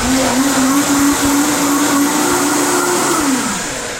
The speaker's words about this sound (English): All right, going to just put the blender on.